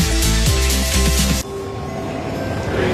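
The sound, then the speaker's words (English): A loud rumbling train rolls along the rails with a sustained high metallic squeal from its wheels, then the squeal cuts off abruptly, leaving a steady lower rumble. “Here we are, another train delay,”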